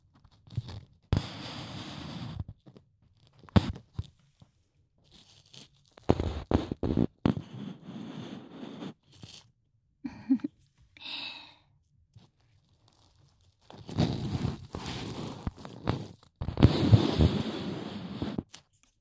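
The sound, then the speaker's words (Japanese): Bursts of dry, crackly scratching and rustling from ear cleaning with an ear pick come in irregular clusters separated by short quiet gaps, with no talking. “じゃあ耳かきはこの辺でおしまい。”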